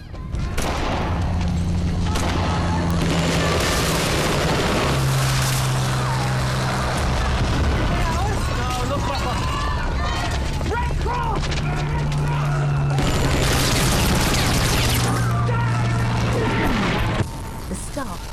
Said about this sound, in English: An aeroplane soars over the camp and begins dropping bombs which rip through the ground and buildings. Staff come out of tents in shock, then the plane comes back for another attack.